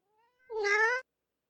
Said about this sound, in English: Oh, stop giving me that look. What do you know? You're just a cat.